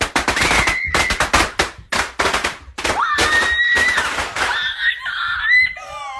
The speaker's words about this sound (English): Nothing better than inside firecrackers. Terrifying.